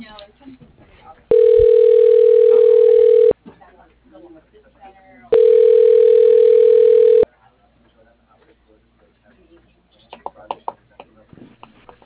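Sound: telephone dialing tone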